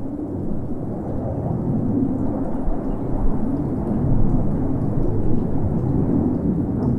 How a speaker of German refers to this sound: Kiryat Tivon, eine kleine Stadt bei Haifa im Norden Israels. Die Anwohner hier sind das Donnern vorbeifliegender Kampfjets gewohnt. In der unmittelbaren Nähe liegt ein Stützpunkt der israelischen Luftwaffe.